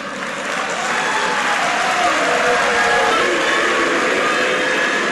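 Political party activists, and sometimes students, applaud panelists who share their views and jeer union magistrates; a steady, dense wash of clapping with a murmur of voices mixed in, sustained and fairly loud for several seconds.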